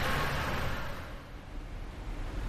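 A car speeds up along a road with a steady low engine rumble and broad road hiss, louder at first and then easing slightly, with no voices.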